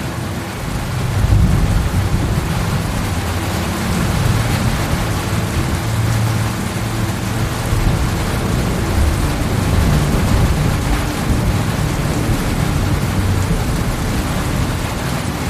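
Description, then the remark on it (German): Heavy rain from a summer thunderstorm pours down steadily, large drops in a dense, continuous patter on dry ground and a porch roof overhead, with a deep low rumble underneath throughout. No voices. “Die großen Wassertropfen prasseln auf den trockenen Boden und das Verandadach über uns.”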